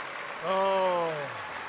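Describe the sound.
A steady wash of crowd applause from a standing audience runs throughout, with one loud voice letting out a long, falling scream or yell in the middle before the clapping carries on.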